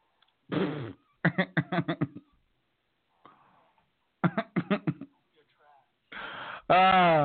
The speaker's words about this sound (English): Let me fart on that comment.